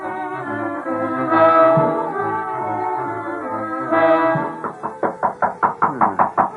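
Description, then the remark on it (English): Dramatic sustained music swells, then a quick, evenly spaced series of about eight firm knocks on a door sounds as the music continues underneath. “The door. Somebody hears a knock.”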